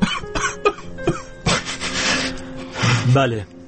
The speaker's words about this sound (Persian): گریه میکنه